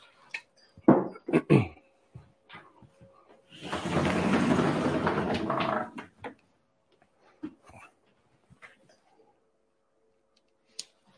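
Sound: window being opened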